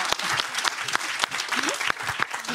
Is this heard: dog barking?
no